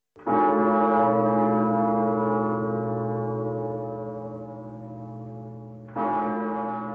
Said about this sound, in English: The mighty Zikmund Bell, ringing out for 400 years over Prague from the cathedral tower.